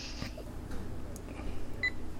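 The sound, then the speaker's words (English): A single short electronic alert beep from a Mac computer sounds near the end, brief and fairly faint against a low background hum. “Did your Steve's clock just go off? No, that was someone else's. It was someone's Mac.”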